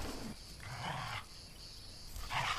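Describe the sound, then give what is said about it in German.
A dog lets out two rough, breathy vocal bursts, one longer and one brief, over a steady high drone of cicadas in the evening in the background. “Hat der Hund Angst vor dem Kind?”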